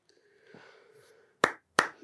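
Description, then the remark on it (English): Two sharp, loud hand claps ring out, a brief gap between them, after a faint low hum; a short burst rather than full applause. “Why does that deserve a round of applause?”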